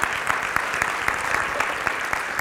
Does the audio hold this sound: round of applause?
yes